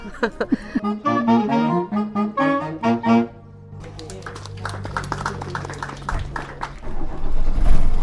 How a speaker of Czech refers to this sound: A my nasedáme zpátky do autobusu Škoda 706 RTO. Možná, že zvuk motoru ho prozradí